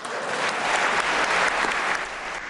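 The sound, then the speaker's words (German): Sustained applause from a large group fills the Swiss National Council chamber after Hans-Jörg Walter is elected with 185 votes, a dense, steady patter of many hands clapping at once with no voices standing out. “Und mit dem Klatschen hat Hans-Jörg Walter dann das Zepter im Nationalrat übernommen.”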